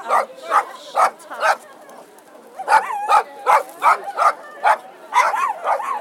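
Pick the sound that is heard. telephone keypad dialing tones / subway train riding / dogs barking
dogs barking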